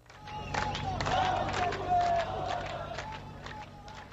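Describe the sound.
A large crowd of migrants refused entry from Serbia into Hungary shouts and chants together outdoors, 'Open the gates, no food, no water, open the gates', many voices blending into a loud, continuous roar with rhythmic surges and some clapping.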